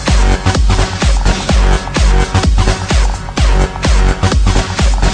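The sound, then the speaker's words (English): A loud, dense wash of distorted noise with blaring stadium-style horn tones, driven by a heavy, pounding kick drum in a steady rhythm throughout. No voices. “Some noise with stadium horns.”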